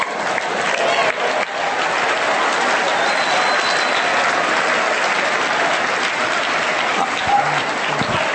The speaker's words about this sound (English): Can you guys give yourself a round of applause on that?